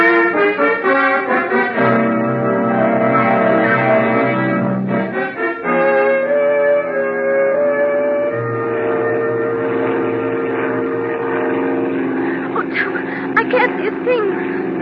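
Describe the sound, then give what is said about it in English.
A small airplane engine drones loudly and steadily, its pitch shifting down and settling a few times as it throttles back to land without lights in weather too choppy for a boat. “I don't need lights to land.”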